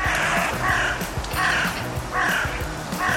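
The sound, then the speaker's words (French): A crow caws hoarsely about five times in a steady rhythm, each harsh, raspy call loud, with no voices in between. “C'est le corbeau, évidemment. Un oiseau connu pour être particulièrement bruyant avec ses croassements rauques et graves.”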